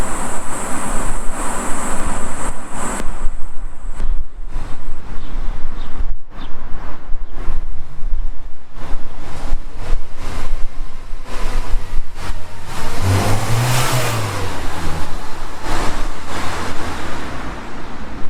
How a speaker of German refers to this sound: Ein schwarzer Golf fährt vorbei